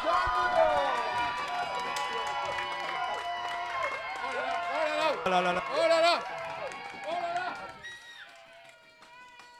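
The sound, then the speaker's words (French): An audience applauds and cheers loudly and steadily for about eight seconds as the applause meter is run, with high, shrill whoops over the clapping. The noise then drops away, leaving a voice and a thinner tone. “On va lancer l'applaudimètre.”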